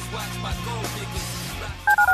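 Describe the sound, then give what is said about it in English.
Four quick, loud telephone keypad tones beep in rapid succession near the end, following a stretch of busy background music with a low, steady bass. “Dial the phone.”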